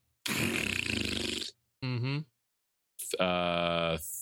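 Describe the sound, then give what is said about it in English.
Someone imitates fart noises with their mouth: a long raspy sputter, a short wobbling squeak, then a longer buzzy blat, fairly loud, with brief pauses between. “They will just fart and shit all over themselves, is what it sounds like.”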